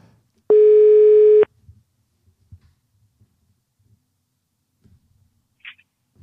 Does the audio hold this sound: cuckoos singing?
no